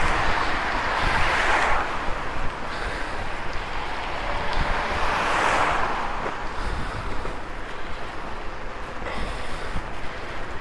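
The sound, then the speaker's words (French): Heavy wind buffets the microphone in a constant low roar, swelling into two louder gusts, with no voices, recorded while cycling in the rain into a headwind. “Donc je pense que ce qui va se passer, c'est que je vais rouler sous la pluie tout le long avec un vent de face.”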